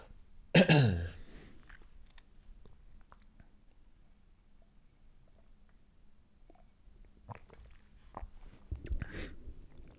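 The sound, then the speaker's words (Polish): A loud, harsh cough from someone with a weak throat bursts out at the start, followed by quiet. Then come a few softer throat-clearing noises and rough breathy sounds toward the end. No one speaks. “Sorry, będą tutaj przerwy, bo kaszel, słabe gardło i tak dalej.”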